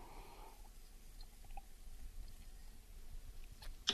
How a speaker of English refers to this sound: now I'm going to have to take another quick sip here, folks.